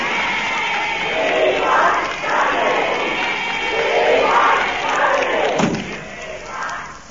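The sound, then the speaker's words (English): Hundreds of excited girls waving banners shout and scream outside, a dense, continuous roar of high voices rising and falling in waves, loud throughout, with a brief thump near the end. “Hundreds of them outside, with fangs. Look at them, waving banners.”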